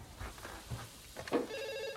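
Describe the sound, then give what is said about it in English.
A telephone starts ringing partway through at home, a steady pulsing electronic trill, clear, after some soft low thumps and shuffling. “He hobbles to the phone.”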